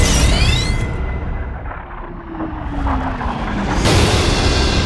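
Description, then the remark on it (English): A sci-fi base cannon powers up with a rising electronic whine over a dense rumbling roar, then erupts into a loud, sustained, heavy blast with no voices. “Initiate phase one. Power up the base cannon.”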